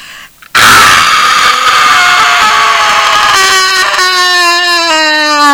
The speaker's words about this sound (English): Why are babies allowed to scream and we are not?